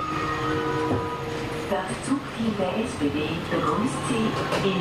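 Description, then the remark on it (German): A train rumbles and hums steadily, with what sounds like doors closing and the train starting to pull away, while a voice talks over the noise. “Einsteigen, die Türen schließen automatisch. Der Zug fährt ab”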